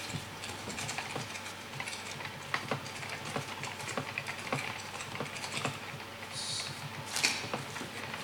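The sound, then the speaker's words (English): Steady clicking of keys on a computer keyboard as commands are typed on the command line, an uneven run of crisp taps with short pauses, no voices. “Looks a bit different on the command line I'm now typing because I did some simplification for me because you've seen I'm not good at typing this morning.”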